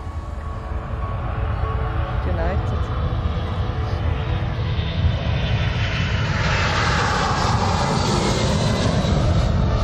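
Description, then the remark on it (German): A loud, steady airplane engine drones continuously for the whole stretch, a deep rumble with a rushing hiss on top and no pauses. “Beeindruckend, dass so Flugzeuge fliegen können.”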